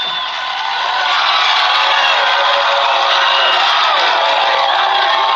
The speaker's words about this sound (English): The crowd's going wild.